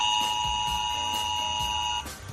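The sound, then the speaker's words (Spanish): A Spanish Civil Protection emergency alert sounds on a mobile phone, as used during the DANA floods in Valencia: a loud, steady electronic tone with a shrill high overtone, holding for about two seconds before abruptly cutting off. No one speaks. “Es el sonido de la alerta de Protección Civil en el móvil.”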